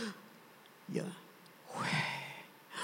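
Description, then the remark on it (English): An audible breath drawn in sharply, followed by a longer, airy exhale; two breathy bursts from one person, with no words spoken. “Yah, Y-H is you take in. W-H is you breathe out.”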